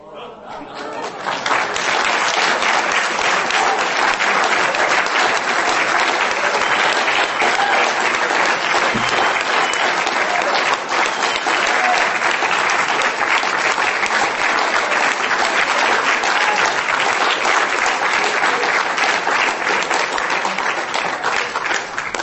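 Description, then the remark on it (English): Sustained applause from a large audience, a dense, steady wash of clapping that starts quickly and holds at full loudness for about twenty seconds without letting up. “Don't applause.”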